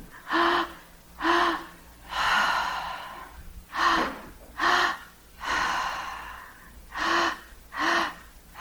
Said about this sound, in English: So let me hear you breathe. Ready?